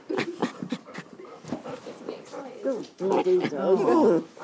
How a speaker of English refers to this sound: You're a bloody nuisance, you dogs. Shut up. Shut it. I'm gonna knock you out in a minute.